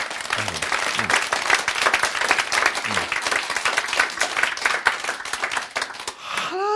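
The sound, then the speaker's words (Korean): An audience applauds steadily for several seconds, a dense wash of many hands clapping, with a few faint voices near the end as the clapping continues. “창조하셨습니다. 박수.”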